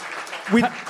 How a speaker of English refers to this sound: Please, a round of applause for our Anglified.